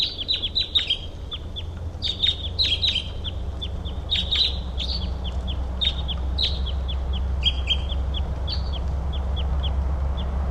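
Crossbills calling repeatedly, sharp high chip notes in quick bursts and scattered series, over a steady low rumble of background noise, just after about two hours of rain have stopped; no voices.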